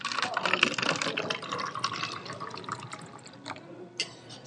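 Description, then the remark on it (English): Deeply steeped tea being poured steadily into cups, a continuous splashing trickle, with a few small clinks and drips near the end. “All right, here we go. The official pouring. Not too much.”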